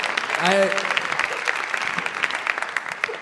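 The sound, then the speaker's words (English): An audience claps steadily in a dense, even patter for about three seconds, with a short voiced whoop or call rising above the clapping near the start. “It's okay to applaud, because I wove that.”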